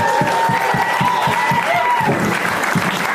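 Steady, rhythmic hand clapping at a quick even pace, loud and continuous for about three seconds, with a faint high tonal sound drifting over it partway through.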